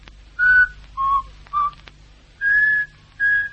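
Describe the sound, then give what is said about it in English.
A person whistles a short tune of five clear, pure notes, the first three brief and stepping down in pitch, the last two longer and higher, fairly loud with no talking. “he whistles all the time. The same tune.”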